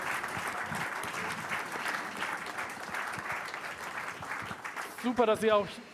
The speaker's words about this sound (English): So we are done with round one, and we'd like to have a big applause for all of the participants.